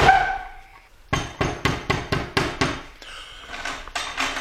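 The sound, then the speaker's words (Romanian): Loud, hard knocking on a door in a fast, steady series of about eight blows, followed by a few more rapid knocks, after a brief fading ringing tone at the start. “Unde este servitorul pus să răspundă la ușă?”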